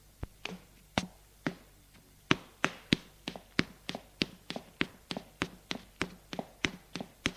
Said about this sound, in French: Arrivé rue Bouteille, il entre dans l'allée d'un immeuble lépreux, le numéro 5. L'allée est noire, sale, sans les poubelles, le pipi de chat et le moisi. Il monte des escaliers en pierre usée.